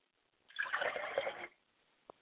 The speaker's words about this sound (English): I like to pour libations to my father's spirit, and I say Ashe.